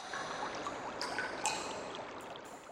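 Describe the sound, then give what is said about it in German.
Water trickles steadily down a rock wall, a continuous splashing wash with occasional bright droplet pings standing out, no voices. “Sie gingen weiter in die Richtung, woher das Geräusch kam, und sahen an der Wand Wasser herunterrinnen.”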